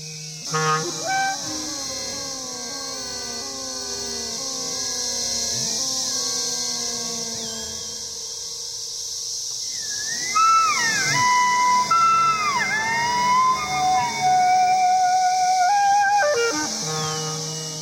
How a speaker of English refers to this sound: So he's playing the iPad, you're playing the clarinet, and the brood of cicadas in Lexington, Virginia, which came out last year in 2012, providing the rest of the sounds.